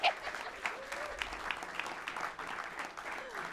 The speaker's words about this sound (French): On l'applaudit.